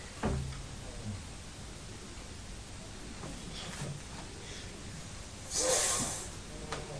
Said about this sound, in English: Can hear Daddy snoring, can't we? Could you hear Daddy snoring then? So he's having a lie down, isn't he?